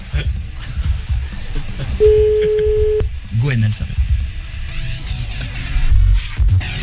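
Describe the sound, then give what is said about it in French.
A single steady electronic ringback tone sounds for about a second, clear and moderately loud, while a group of friends waits for the person they are phoning to answer, amid people talking. “Ah, si j'étais elle, je répondrais au téléphone quand même.”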